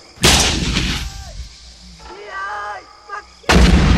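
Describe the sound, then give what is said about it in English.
Two loud, booming gunshots fired on a Thanksgiving hunt for wild turkeys, the first trailing off in a long rumbling echo; a brief voice is heard in the quiet gap before the second blast cuts in at the end. “Nice shot”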